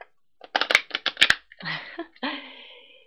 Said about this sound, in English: Now, let's look at our power thought cards. And what I love about power thought cards, I'm mixing them up as I'm talking. Let me just shuffle them real quick.